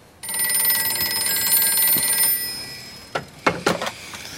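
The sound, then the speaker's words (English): A telephone bell rings loudly and continuously for about two seconds, a bright metallic trill, waking Jackie Robinson with a call from Branch Rickey's office, then stops; a few sharp clicks and clatters follow, like a receiver being picked up. “The phone rouses Jackie from his slumber.”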